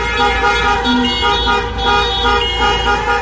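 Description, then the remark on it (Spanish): Many car horns blare together in a loud, continuous, overlapping chorus, a sustained wall of honking from hundreds of cars in Sunday protest car marches against the LOMLOE education law in Cáceres and Plasencia, Spain, with no pauses and no voices. “Es el sonido de este fin de semana. Centenares de coches, 500 en Cáceres y 250 en Plasencia, según delegación del gobierno, participaron el domingo en las marchas contra la LOMLOE o la ley CELAA de educación.”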